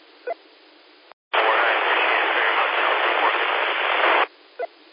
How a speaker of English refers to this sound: Yeah, that transmission's too far down in the white noise.